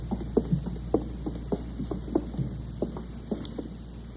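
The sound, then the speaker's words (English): An air conditioning unit hums steadily at a low pitch, with a faint irregular rattling or thumping running through the drone. No voices are heard. “They could at least open a window. Air conditioning.”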